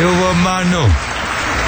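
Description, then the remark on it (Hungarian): A short spoken exclamation gives way to a steady patter of clapping, like a small audience applauding a song performance at moderate volume for the rest of the moment. “Hát ezt meg kell tapsolni, kedves közönség!”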